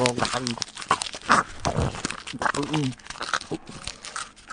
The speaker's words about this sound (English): I could, like, read a couple lines in the very beginning before I rip up the letters. Well, no, or I could just rip it up and take the little pieces and eat them.